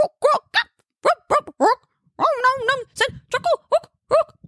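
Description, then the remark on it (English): A man's voice belts out a goblin song, a rough, guttural chant of short barking syllables in an uneven rhythm, breaking into a longer warbling phrase midway, loud with no other sounds. “Wallace cleared his throat and then barked out a guttural.”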